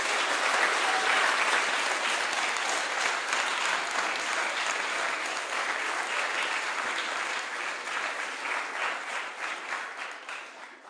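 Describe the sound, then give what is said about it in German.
Sustained audience applause on Christmas Eve for what the children put on, a dense wash of many hands clapping steadily for about eleven seconds, holding loud before gradually thinning and tapering off at the end. “Nochmal einen richtig dicken Applaus, bitte.”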